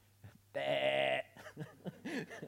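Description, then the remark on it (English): A single loud sheep bleat rings out for just over half a second, then a person starts talking right after it. “The sheep looks up, startled, turns around, sees the shepherd is calling it, and it sort of ambles back safely.”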